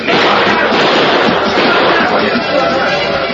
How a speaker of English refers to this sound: Back of him, he could hear the angry yells of men, punctuated by blind shots.